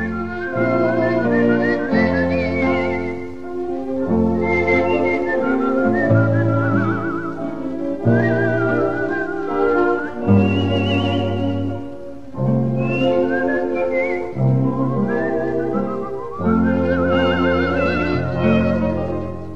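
A solo whistler carries a lively melody with rapid flute-like trills and ornaments, clear and close, over a steady band accompaniment with sustained low chords, no talking.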